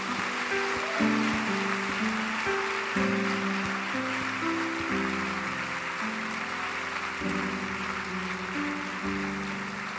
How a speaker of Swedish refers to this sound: En stor applåd för ungdomsledarna.